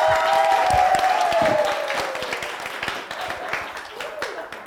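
A crowd breaks into steady, loud applause, with a high whoop or whistle rising over the clapping at the start before the claps gradually thin out and soften.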